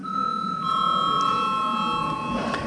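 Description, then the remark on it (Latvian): A parliament chamber bell rings before a vote on a bill in its first reading, one continuous, steady electric tone with bright overtones, sustained evenly for nearly three seconds with no talking over it. “Pirmo lasījumu arī komisija lūdzu zvanu.”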